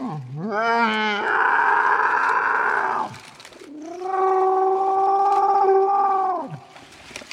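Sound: dinosaur roar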